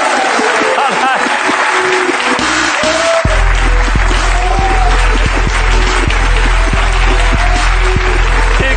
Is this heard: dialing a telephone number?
no